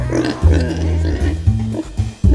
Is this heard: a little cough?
no